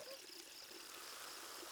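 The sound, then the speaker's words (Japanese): A steady, soft fizzing hiss with fine crackling bubbles from a carbonated drink, continuous and quiet for the whole stretch with no voices. “では音だけじゃぞ。シュワシュワ聞かせてやるからの。”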